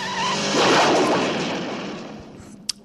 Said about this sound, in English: Okay, so we've just seen, a bad guy driving off the edge of a cliff on a motorbike. One bad guy or two bad guys, probably James Bond rammed the guy off the edge of the cliff and he's falling to his death.